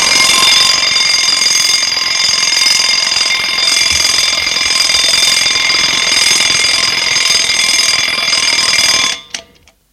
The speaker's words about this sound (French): Réveil sonne. Comme tous les matins, à 7h.